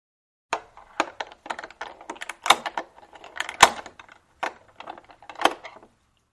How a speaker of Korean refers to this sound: 그가 한참 전에 식사를 끝내고 그 자리에 아무렇게나 누워있자 그에게 물러가라는 신호를 하느라고 여동생이 천천히 열쇠를 돌렸다.